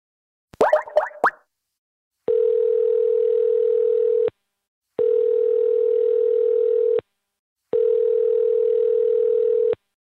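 A quick flurry of phone keypad beeps, then three long, steady ringback tones, each about two seconds with short pauses between, heard clearly with no voices.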